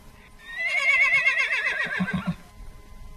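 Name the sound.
horse neighing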